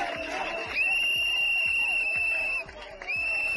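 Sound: crowd whistling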